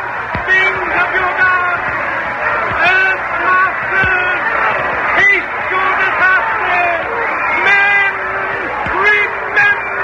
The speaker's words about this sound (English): And all they're boiling around us like milk that smells sharp. We can't move for the mob. They're crazy with terror.